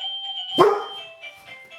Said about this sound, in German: Ja, wie ihr hört, ganz verrückt, wenn die Klingel geht. Dann geht der Hund als unsere zweite Klingel.